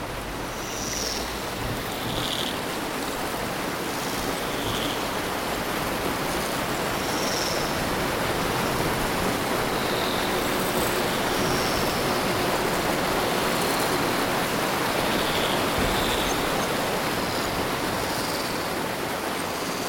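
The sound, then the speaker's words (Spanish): A steady, roaring rush of floodwater from an overflowing river during continuous rain, fairly loud throughout, with a few faint high chirps scattered over the top. “Gracias al mensaje de un gorrión amigo, la reina se enteró que el río más cercano se había desbordado y este se aproximaba peligrosamente.”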